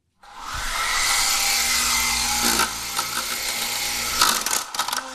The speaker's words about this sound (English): And that's my remote-controlled airplane helicopter.